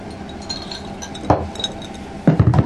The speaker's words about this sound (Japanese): あ、ビールどうぞ。乾杯しますか。 あ、じゃあ乾杯しましょうか。あ、じゃあお疲れ様です。